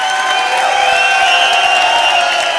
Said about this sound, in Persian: بذار یه تشویق اساسی با جیغ و هورا اینجور پایی نداره.